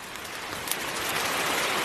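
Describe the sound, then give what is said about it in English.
A steady tropical downpour on a cacao farm hisses across a wide band of sound, dense and continuous, with scattered sharper drops pattering on surfaces. No one speaks. “Nice tropical downpour.”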